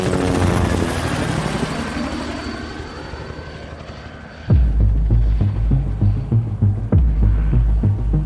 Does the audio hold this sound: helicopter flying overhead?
yes